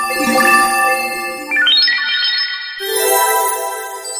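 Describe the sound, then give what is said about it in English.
A bright, shimmering chime effect with layered tinkling tones that swirl upward, shift in pitch, then scatter and fade into a glittering dissolve. No voices. “Sparkles and dissolves.”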